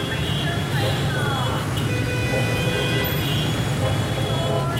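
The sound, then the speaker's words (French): Steady, unbroken airplane cabin drone: a heavy low rumble with a broad hiss over it, holding an even loudness throughout, with faint indistinct voices murmuring underneath. “Nous sommes dans l'avion.”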